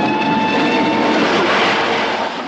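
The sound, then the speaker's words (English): A steady, loud rumbling roar of a train running along the tracks at dusk, with a faint high whine riding over the noise, continuous with no voices. “Dusk, the train runs on.”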